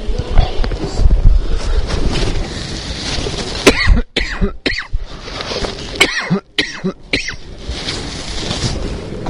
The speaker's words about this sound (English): Give me one sec. I don't know why I'm coughing so much.